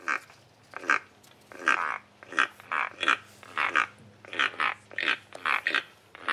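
A keel-billed toucan from Belize gives a steady run of about fifteen harsh, croaking calls, each short and raspy like a frog or grunting pig, over a low, constant hum.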